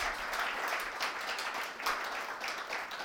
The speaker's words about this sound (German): Also ich fand es ganz klasse, was unsere Ranger-Kinder als Theaterstück da aufgeführt haben. Fand ihr das auch gut? Ja, geben wir uns jetzt einen Applaus.